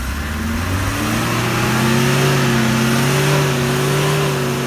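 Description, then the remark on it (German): The engine of an old Mercedes ambulance that is stuck revs hard and steadily for several seconds. Its droning pitch rises slightly and then holds, loud and continuous, with no voices. “Oh, so klingt das, wenn ein alter Mercedes-Krankenwagen feststeckt.”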